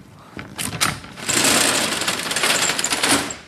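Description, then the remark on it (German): A few sharp clicks, then a loud, steady mechanical rattle as the roller shutter of the first compartment on a fire truck rolls open onto technical rescue equipment, clattering continuously for a couple of seconds with no talking. “Man sieht hier die ganzen Rolltore.”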